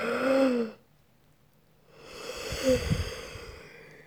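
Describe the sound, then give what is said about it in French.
A voiced, breathy exhale with a falling tone opens, then a pause, then a long, drawn-out airy yawn, taken while stretching the arms and legs and breathing in as much air as possible, swelling and fading, fairly quiet, with no speech. “On va étirer les bras, les jambes et bailler en faisant entrer tout l'air que l'on peut dans le corps.”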